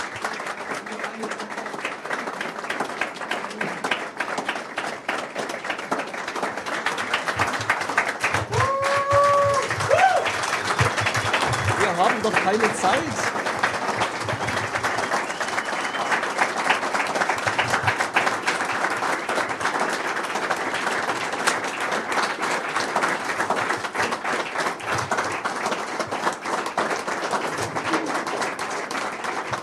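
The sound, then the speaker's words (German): Sustained audience applause at the YCMP event for the two people who gave the closing: a dense, steady wash of many hands clapping for about thirty seconds, with a few brief whistles or cheers near the start and faint voices mixed in. “Noch bitte einen großen Applaus für die beiden.”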